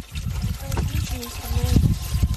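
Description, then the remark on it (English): Bottled water pours and gurgles steadily into a metal machine gun as coolant, a continuous trickling splash lasting the whole moment, with people talking in the background. The machine gun, made in 1939, is being assembled by the Witches of Bucha, a mostly women's volunteer group in Ukraine. “They have to pour in bottled water as a coolant.”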